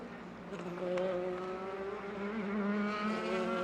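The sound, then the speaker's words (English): Some 35 race cars run laps on a circuit, their engines droning steadily, several overlapping tones rising and falling, a continuous mechanical roar with no pauses. “And we have 34 cars out on the circuit, make that 35, as Roman Dumas has been out and straight back into the pit lane in the Glickenhaus number 708, the red and white car.”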